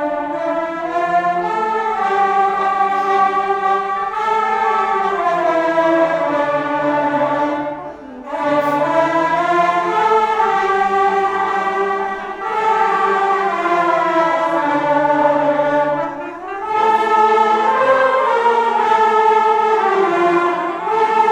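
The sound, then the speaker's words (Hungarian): A large ensemble of around seventy tárogató reed instruments plays loud, sustained, reedy melodic phrases together at the tárogató world meeting, in the courtyard of the Rákóczi castle in Sárospatak, with brief pauses between phrases and no voices. “Kedves hallgatóink, így hangzik az, amikor egyszerre körülbelül 70 tárogatós szólaltatja meg a hangszerét.”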